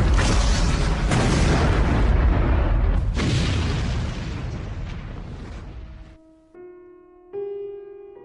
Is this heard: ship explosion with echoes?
yes